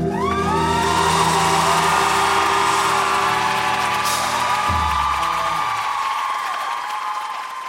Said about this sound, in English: Oh my God, love all the applause. Let's go.